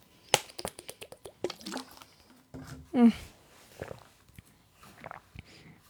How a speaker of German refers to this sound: Und ich muss einen Schluck trinken, bevor wir anfangen.